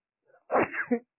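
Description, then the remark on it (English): A single sharp sneeze, preceded by a brief soft intake of breath, then a burst of noisy sound that cuts off quickly. Fairly loud, heard on its own with no talking. “Sorry. Bless you.”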